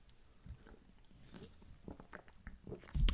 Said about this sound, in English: Obviously that's the goal, but let me grab a sip of my beverage here, folks, bear with me.